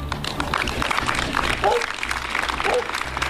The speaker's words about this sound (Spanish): Es el sonido de los aplausos a mediodía contra el asesinato de una mujer de 44 años presuntamente a manos de su expareja.